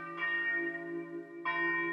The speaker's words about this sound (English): And as we listen to the bells of the Annunciation from Avignon in France, we give thanks to God for all our blessings and for touching each one of us now as we celebrate the sacred sound of the bells, calling